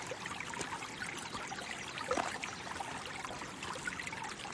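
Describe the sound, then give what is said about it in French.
A flowing river of pure, crystal-clear water laps and burbles steadily, a continuous wash of water with small splashy flickers throughout and no voices. “Pas après pas, le clapotis de l'eau apaise votre corps et votre esprit.”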